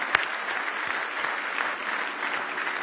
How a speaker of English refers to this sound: Somebody say praise the Lord. Give Jesus a big hand clap of praise.